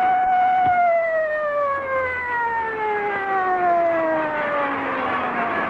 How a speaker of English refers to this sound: The siren moaned to stillness, but there was no peace.